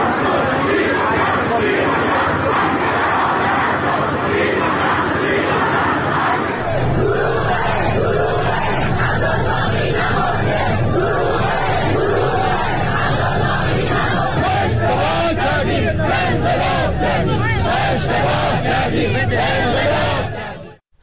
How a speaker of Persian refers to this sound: شامگاه چهارشنبه آبادان شاهد حضور صدها شهروند در خیابان بود که به نحوه مدیریت این بحران اعتراض داشتند و در شعارهای خود مقام‌های ارشد جمهوری اسلامی را هدف گرفته بودند.